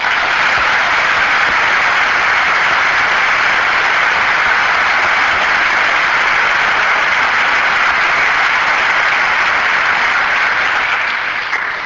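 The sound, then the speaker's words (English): Sustained audience applause, a dense, steady roar of many hands clapping at an even loudness for about twelve seconds, tapering only slightly at the very end, with no one speaking over it. The applause welcomes Professor David Engelsma at a debate. “I ask as a courtesy to both speakers that there be no further applause or comments from the audience from this point.”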